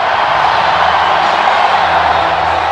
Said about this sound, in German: Mit breitem Grinsen tritt Donald Trump auf die Bühne, seine orange-blonde Haartolle leuchtet und er nickt zum Applaus, als wolle er ihn bestätigen.